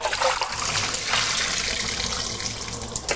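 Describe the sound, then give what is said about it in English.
Water pours and trickles steadily from a container into a sink as 2 cups of soaked raw cashew nuts are drained, a continuous splashing drain with a bright, hissing wash and no talking. “I have 2 cups of raw cashew nuts right here soaking in water. So I'm going to drain these now.”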